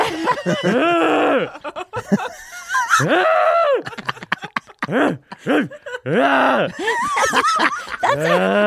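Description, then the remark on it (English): A person's voice imitates a horse crying, with a series of loud, wavering whinny-like wails that rise and fall in pitch, separated by brief pauses. “That's a horse doing it in the moment.”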